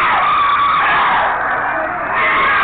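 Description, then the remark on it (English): A person screams loudly and continuously during an exorcism, a harsh, strained, raspy shriek that holds without pause for nearly three seconds, distorted, with no other voices. “They are screaming because they have to go, and they don't want to go.”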